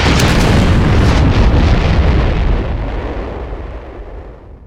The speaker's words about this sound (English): A thunder like he had never known, and a howling wind driving stone and metal roared past, rocking the wrecked vehicle.